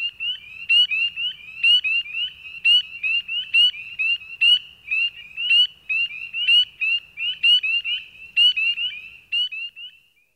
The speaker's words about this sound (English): Let's consider one more instance of tree calling that can be heard throughout much of eastern North America. During the breeding season, male spring peepers make piercing bird-like peeps.